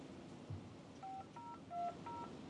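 phone keypad dialing tones

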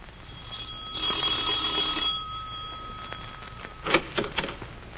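doorbell ringing

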